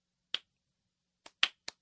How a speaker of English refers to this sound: And I was like, slow clap. Right. See, that's why I always get like... Slow clap.